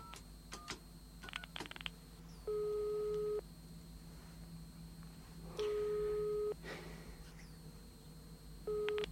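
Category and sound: signal or alarm, answering machine beep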